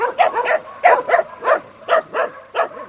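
A dog in the protective exclusion zone, where many dogs now live, barks repeatedly in a quick, uneven series of about eight loud barks, some sounding slightly yelping, with no voices or other sounds around them.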